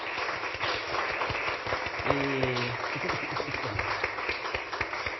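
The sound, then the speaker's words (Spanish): Steady audience applause for five panelists at a parliament event, with dense, crackling claps throughout and a brief voice cutting in partway through. “Quiero pedirles un aplauso, si puede ser.”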